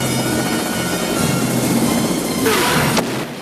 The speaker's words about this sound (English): The POWs are thrown around by explosions as missiles hit the ground around the chopper and buffet it in the sky.